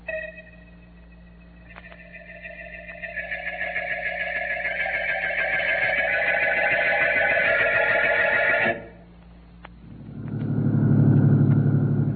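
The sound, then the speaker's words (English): A car engine drones steadily along a road on a clear night after a storm, its hum building and roughening before cutting off abruptly, followed by a deep rumbling swell. No one speaks. “You better drive carefully. Road may be undermined.”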